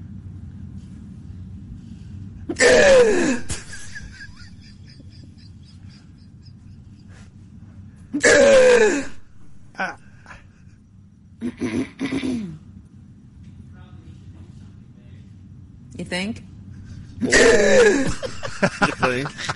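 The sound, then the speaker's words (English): A woman's odd, loud hiccups burst out about five times at irregular intervals, each a short strained vocal yelp over a low steady rumble, with a brief spoken remark between them. “No, that's the weirdest form of hiccups.”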